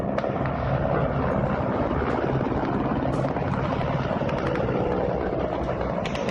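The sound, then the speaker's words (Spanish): Hundreds of Russian military helicopters roar overhead, attacking in waves as Moscow's troops cross the border into Ukraine, in a dense, continuous wash of rotor and engine noise that stays loud and steady throughout, with no voices and no pause in the drone. “Misiles rusos han comenzado esa madrugada a impactar en varios puntos de Ucrania y las tropas de Moscú cruzan la frontera con carros blindados y con centenares de helicópteros que atacan en oleadas.”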